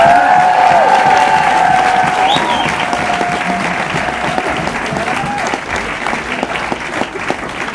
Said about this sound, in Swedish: En stor applåd för att han ska flytta till Sverige, eller hur?